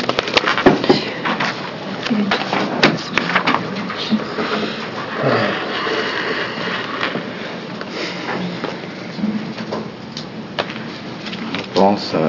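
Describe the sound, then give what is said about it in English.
Papers shuffle and rustle in irregular, crinkly bursts during a Senate committee session, between work sessions on two Senate bills, with occasional soft knocks and muffled, indistinct voices murmuring underneath. “And the folks would just hang tight for the paper shuffle here.”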